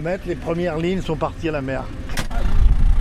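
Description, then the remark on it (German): Voices talk over a low background on a beach. A sharp clack cuts in as someone jumps down from the tractor's ladder, and the tractor engine's deep, steady rumble swells louder toward the end. “Absprung von der Traktorleiter.”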